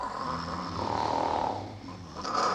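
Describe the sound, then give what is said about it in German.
Heavy, rasping snoring, a loud rattling breath that swells, dips briefly, then surges again with a harsher, hissier edge. No voices. “Die äußert sich meist durch heftiges Schnarchen, sagt der Internist und Schlafmediziner Holger Hein.”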